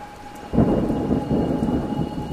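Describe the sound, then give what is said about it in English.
A deep, rolling rumble of thunder breaks in suddenly and sustains over steady rain, loud, with a faint tonal hum persisting in the background. “And wherever Charlie goes, rain seems to follow.”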